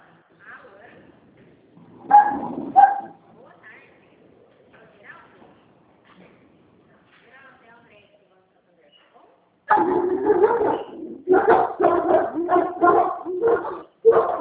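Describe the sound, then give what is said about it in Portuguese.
Dogs bark in a loud, rapid flurry near the end, overlapping yaps following a couple of isolated barks earlier, with a person talking quietly in between. “Gente, cachorrada.”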